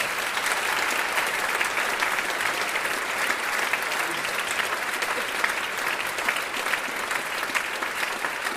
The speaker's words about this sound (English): But without all of those people who support it and allow us to do what we do, none of this would happen. So please, can we all give those very important people a big round of applause?